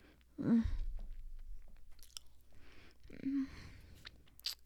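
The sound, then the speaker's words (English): Wet mouth sounds of sucking on a pink and purple glass toy covered in little knobs: two slurping pulls, each with a short low squeak, then soft smacks and lip clicks in between, fairly quiet and with no talking. “I have a toy here that I'm sucking on. It's glass and it's really, really pretty.”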